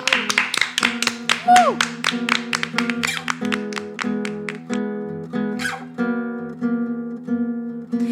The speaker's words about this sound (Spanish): Un aplauso. Un aplauso.